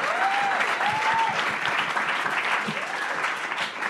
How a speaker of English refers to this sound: You can applaud that. The crowd erupts in applause.